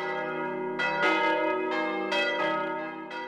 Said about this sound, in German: Glocken sind das mächtigste Mittel, um die Stadtgemeinde zu versammeln. Glocken rufen zum Gebet, zur Verteidigung, zum Löschen bei Bränden, zur Ratssitzung, zur Bekanntgabe neuer Verordnungen, zur Vollstreckung von Urteilen.